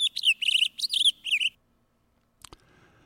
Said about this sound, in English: So they played four different bird songs in that, I believe. And I know that the hermit thrush was one of them. And all of those birds they played are birds that eat fruits and spread seeds.